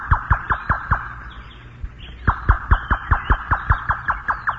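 The radio program Monitor's beacon scanning tone: a rapid, evenly spaced train of sharp electronic pulses, fairly loud, breaking off briefly midway before resuming at the same brisk rhythm.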